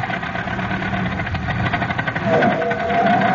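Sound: old car engine running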